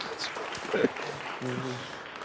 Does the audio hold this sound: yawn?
no